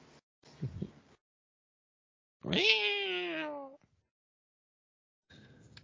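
A single drawn-out cat meow from a movie, loud, rising then sliding down in pitch over about a second, set between brief muffled noises and stretches of silence.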